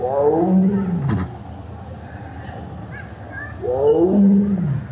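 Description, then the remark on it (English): Two deep, rumbling tiger roars as tigers greet John Aspinall, separated by a quieter stretch with a brief puffing chuff and faint background noise; no one speaks. “We went down to visit a tiger or two, and sure enough, John Aspinall was greeted warmly.”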